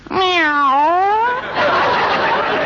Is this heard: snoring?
no